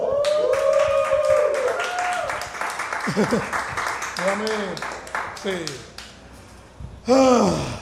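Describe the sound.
An audience breaks into dense, steady applause that runs the whole time, with scattered cheers and shouted voices rising over the clapping and a loud burst of cheering near the end.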